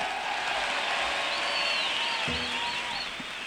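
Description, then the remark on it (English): Audience applause, a dense, steady wash of clapping that holds throughout, with a few rising whistle-like cheers weaving over it. “I'd like to share that round of applause with some gentlemen that have been working hard up here.”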